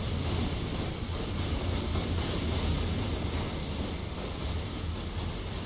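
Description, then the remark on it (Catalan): A train rumbles steadily on the rails, with a thin wheel squeal running above the low roar as it slows toward a stop. No one speaks. “El tren va parant, senyal que es va acabant aquesta secció que hem arribat a destí.”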